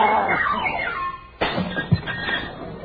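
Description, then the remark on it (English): A flower vase sitting on top of a piano falls and smashes with a sudden sharp crash, followed by a scatter of clattering, breaking pieces. A bright, warbling ringing tone plays just before the impact. “Junior, what broke? Good heavens, my expensive vase.”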